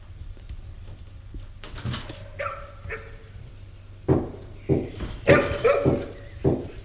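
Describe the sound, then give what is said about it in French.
Dogs bark in short, sharp bursts, a handful spread irregularly over several seconds, with a few high, drawn-out whimpers between them over a low background hum; an old woman's dogs in a salon. “Elle retrouve Félicie au salon, toujours avec ses chiens.”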